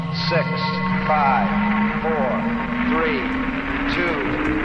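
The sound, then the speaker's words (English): A steady, loud rocket-engine roar from the Apollo 11 launch, as the ignition sequence starts and liftoff follows, fills the whole stretch, with a slowly rising tone inside it while a voice talks over a radio link on top. “10, 9, ignition sequence starts.”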